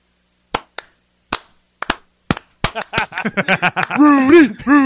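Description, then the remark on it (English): A slow clap in the style of the film Rudy: single sharp claps spaced widely apart, gradually quickening into a faster run of clapping, with a voice joining in loudly near the end. “Slow clap. This is the Rudy slow clap.”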